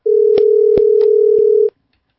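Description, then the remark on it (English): A Skype outgoing call ringing tone: one steady, fairly loud electronic hum lasting under two seconds, with a few faint clicks over it, then it cuts off to silence. No one speaks. “Let's get him on here on Skype.”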